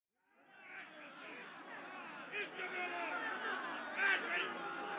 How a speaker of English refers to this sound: two crowds had gathered outside the prison. One was made up of 30 people opposing the death penalty.